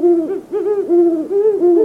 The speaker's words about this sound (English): Hoots of the male great horned owl are lower in pitch than those of the female.